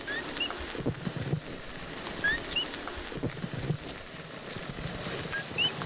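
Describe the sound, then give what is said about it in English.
Coqui frogs, common paperclip-sized frogs of Puerto Rico, chirp in short, high, rising calls, scattered irregularly and repeated several times over a steady, hissing wash of background noise, on a rainy day on a steep green mountain road to a festival. No one speaks. “That chirping you hear is not a bird. It's the coqui, a common frog in Puerto Rico the size of a paperclip.”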